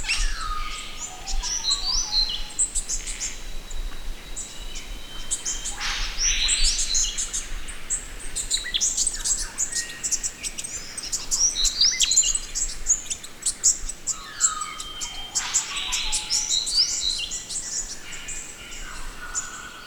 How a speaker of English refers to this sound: So this is a dawn recording, over 8 or 9 species, not 8 or 9 birds, but different species on this recording, including gangangs, which are EPBC listed. And so enjoy.